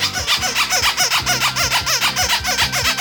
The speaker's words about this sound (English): Oh, Squeaky Ducky's here.